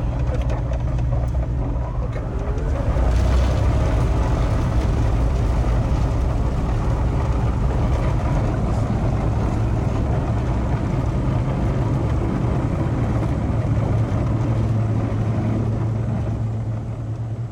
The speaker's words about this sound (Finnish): Pari 100 metriä kiihdytystä ja sitten pieni nykäys ohjaussauvasta taakse ja hups, olimmekin sitten lennossa.